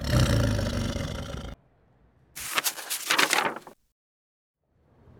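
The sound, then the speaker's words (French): A tiger at the far end of a bridge roars loudly in two heavy, rumbling bursts separated by a brief silence, the second one rough and growling, with a faint rumble returning at the very end. “À l'autre bout du pont, ils viennent d'apercevoir le tigre.”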